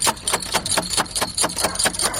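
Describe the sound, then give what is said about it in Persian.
Someone knocks on a door in the middle of the night in a quick, steady series of about ten sharp raps, each one a loud hard thud with no voices in between. “ده این نصف شو در روزه را کی میزنه؟”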